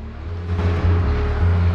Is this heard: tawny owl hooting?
no